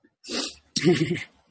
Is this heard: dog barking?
yes